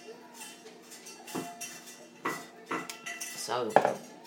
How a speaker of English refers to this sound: So my dog's just licking his dish, ever hopeful that something else is going to materialise.